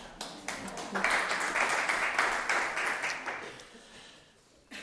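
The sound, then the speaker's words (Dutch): A short burst of applause from a few people, dense clapping that swells quickly, holds for a few seconds, then thins out and fades. No one speaks. “Mijn applaus.”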